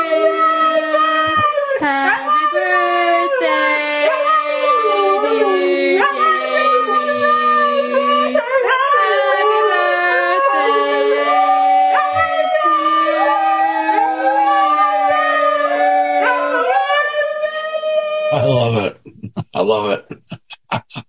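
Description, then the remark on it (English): A dog howls along to a sung Happy Birthday in long, wavering, melodic notes, loud, almost without pause for about eighteen seconds before trailing off into a few brief, scattered noises. “If you get Ranger, he gets talking like that.”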